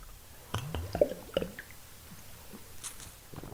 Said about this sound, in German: Gibt natürlich ein kleines Bierchen und dazu, also erstmal ein Schluck Bier, oder?